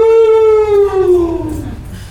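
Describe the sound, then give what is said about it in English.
A person imitates the howling heard in a temple at night with one loud, drawn-out vocal note that slowly slides downward in pitch and fades over about two seconds. “There was howling.”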